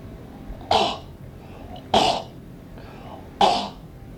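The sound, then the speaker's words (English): Three harsh, sputtering coughs spaced about a second apart, fairly loud, of someone choking on too much chili powder in the chili onion supreme from Wally's Wiener World, with only faint background hiss between them and no talking. “Too much chili powder in the chili onion supreme from Wally's Wiener World.”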